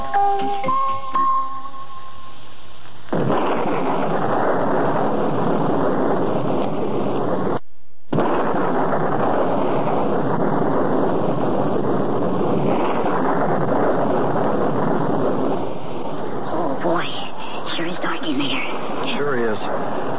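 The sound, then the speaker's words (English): A thunderstorm with a loud, unbroken roar of steady wind and pouring rain outside a big castle, with a brief tonal sound at the start before the downpour takes over. “I also can't see why Mrs. Saxbull would tell us to come out here in this storm”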